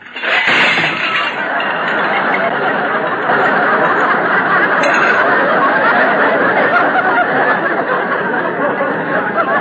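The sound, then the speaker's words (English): A stack of clean dishes is pushed off a drain board and crashes and shatters to the floor with a burst of clinking breakage, followed by a loud, dense wash of laughter and chatter that carries on for several seconds. “Rochester, why'd you drop those dishes?”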